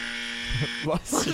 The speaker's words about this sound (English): Bless you. And if you're listening in your car, didn't mean to make you crash your car, but just sneezed. Sorry about that.